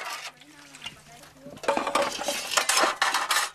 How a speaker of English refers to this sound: is helping her mother wash dishes. Their small and simple mud hut sits beside a shady mango tree.